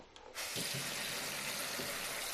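A tap is opened and gushes with a steady hiss of running water, pouring continuously as if filling a glass, then is closed, with no one speaking.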